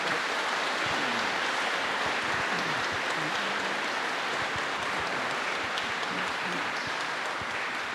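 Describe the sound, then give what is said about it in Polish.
An audience claps steadily for the full stretch, a dense, even wash of many hands at a constant loud level, with faint voices murmuring underneath. The applause is for a canon priest. “Wielkie brawa dla księdza kanonika.”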